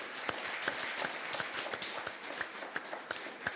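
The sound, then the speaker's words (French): An audience applauds after a film about the Rennes metropolis, a steady, dense wash of clapping, with sharper individual claps standing out at a regular, almost rhythmic pace throughout; no voices are heard. “On peut applaudir.”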